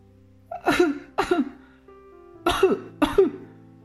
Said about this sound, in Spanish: El pequeño rey está contento de ser rey, pero, por desgracia, eso no impide que siga tosiendo.